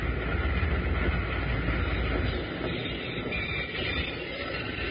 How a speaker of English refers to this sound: He's got the train stopped.